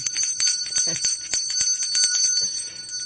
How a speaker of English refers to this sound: Okay. So think of that as something. Okay. Let's ring the bell.